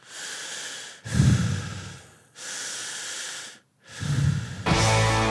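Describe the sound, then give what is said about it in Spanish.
Heavy, menacing breathing through a phone line by a threatening caller: several deep, rasping inhales and exhales in a slow rhythm, loud, with no speech. “Que cuando un periodista se pone a investigar una trama de corrupción, tarde o temprano lo llaman para amenazarlo y se quedan respirando fuerte en el teléfono.”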